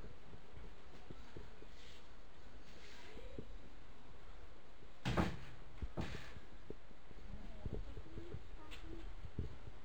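door being opened

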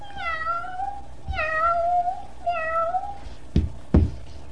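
cat meowing

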